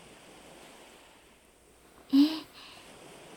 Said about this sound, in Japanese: これこそが先ほどからの波の音の答えです。月球海岸、月見ウサギの間の裏手から広がるこの砂浜と、そこへと打ち寄せる海のことを私たちはそう呼んでいるのです。